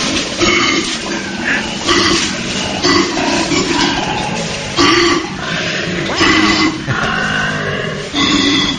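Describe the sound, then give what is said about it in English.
Koala bears fighting and bellowing, pushing each other until one gives up: loud, rasping belch-like bellows and snorting grunts that keep coming in overlapping bursts, with no one talking. “why isn't Koala Bears Fighting one of Mike's new bands?”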